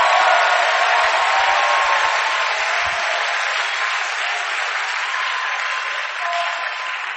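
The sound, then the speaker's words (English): An audience claps and cheers loudly and steadily, a dense wash of applause with scattered shouts that holds at full strength for several seconds before easing slightly. “Clap for your God of decision taking.”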